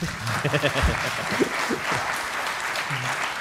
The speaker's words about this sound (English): Round of applause for that.